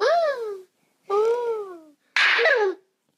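A child plays Talking Tom, a smartphone game with a taffy cat named Tom that repeats back whatever is said: three short bursts of squeaky, high-pitched, sped-up cartoonish babbling, each about half a second long, separated by brief silences.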